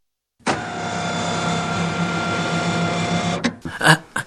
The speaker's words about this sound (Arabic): يا للروعة، لقد اشتغل محرك السيارة.